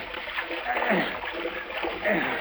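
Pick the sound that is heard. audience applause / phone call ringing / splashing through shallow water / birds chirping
splashing through shallow water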